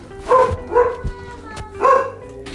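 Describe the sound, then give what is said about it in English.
A dog barks three times in a loose rhythm, loud, mid-pitched woofs with a short gap between each, and a brief quieter yip near the end. “You need to stop barking.”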